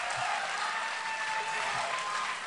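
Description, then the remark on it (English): A large crowd at a speech event applauds and cheers as Tom DeLay takes the stage, in a dense, steady roar of clapping and voices that holds at a constant loud level from start to finish. “But when Tom DeLay took the stage, the talking stopped and the cheering came in waves.”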